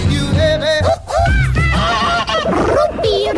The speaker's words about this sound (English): And there she goes, the Whoopie Whoopie Bird, the bird I've stolen from a Dutch radio station.